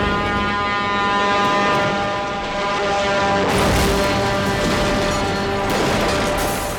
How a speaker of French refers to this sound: le camion sort de la route et percute la cabine